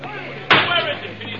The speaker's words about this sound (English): It was a desperate shriek of brakes and a crash out on the highway.